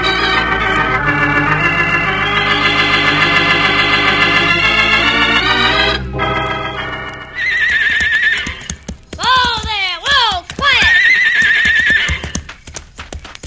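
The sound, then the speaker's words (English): Horses harnessed to a loaded wagon neigh loudly in several long, quavering whinnies, with hooves clip-clopping underneath. A sharp break in the middle is followed by more high, trembling neighs. “Well, the horses are harnessed, the wagon's loaded.”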